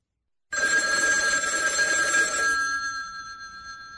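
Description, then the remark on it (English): A telephone rings on an outgoing call to a hospital room's direct number, a steady bright ringing tone that starts abruptly, holds loud for a couple of seconds, then fades slightly as it continues alone with no voices. “I want to give him a call.”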